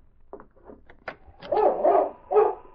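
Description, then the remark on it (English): A dog named King barks several times, heard at the rear door of a cafe, starting with a few short yips and building to three louder, fuller barks, with no voices present. “He was right beside the rear door, and he could hear King barking.”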